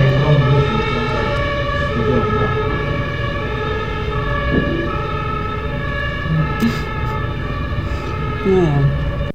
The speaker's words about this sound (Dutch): Nog een brandweerwagen en een hoogwerker, ja hoor.